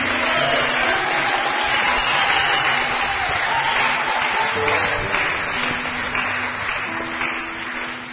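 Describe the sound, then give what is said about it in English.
An audience applauds the worship team and the Lord in a dense, steady wash of clapping that lasts several seconds, with faint sustained musical tones underneath, tapering off slightly toward the end. “Can we give Lord an applaud?”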